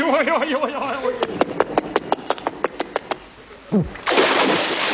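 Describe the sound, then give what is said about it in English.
After a run of quick, evenly spaced clicks and a short descending whistle, a loud splash erupts at the end as a man lands in the sea, its rush of water lingering. “He landed right in the sea.”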